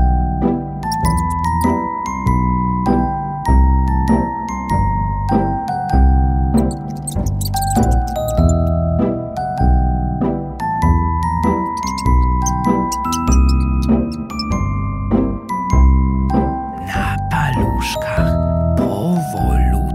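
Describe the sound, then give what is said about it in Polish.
Soft, gentle music plays steadily throughout, with a stepping melody over a low accompaniment and occasional light, tinkling high notes. No one speaks. “Słychać cicho muzykę.”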